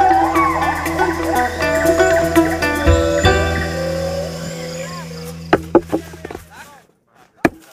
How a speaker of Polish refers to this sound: Tak jak Państwo usłyszeli, konkretny kawał, taki dosyć grubo ciosany brzozy właśnie teraz rzuciłam na jedną z deseczek, bo tak to jest, że pracujemy tutaj cały czas i przede wszystkim na materiałach bardzo, ale to bardzo naturalnych.